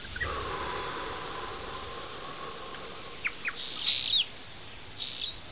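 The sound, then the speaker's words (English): High-pitched song of a yellow-bellied sunbird: a few thin chirps, then a bright, buzzy trill and a shorter burst. The bird sings alone over faint, steady background hiss. “That's the high-pitched song of the yellow-bellied sunbird.”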